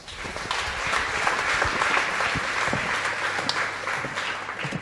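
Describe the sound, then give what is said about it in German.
Sustained applause from an audience welcoming a speaker to a talk about mass surveillance and Austria, a dense, steady wash of many hands clapping at an even loudness for about five seconds, with no speech over it. “Applaus bitte.”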